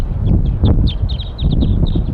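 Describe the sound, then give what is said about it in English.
A flock of wild birds calls from the top of a pine tree above a set net, in a quick string of short, high chirps and whistles, repeating rapidly over a steady low rumble of wind or background noise; a bird marked 4-3 calls in response. “Wild birds and 4-3 responds.”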